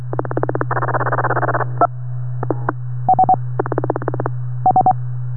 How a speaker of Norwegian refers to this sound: Det kom noen sånne... Uglelyder her, som sånn hakkelyder. Så kom ikke kvitteringstonen til slutt.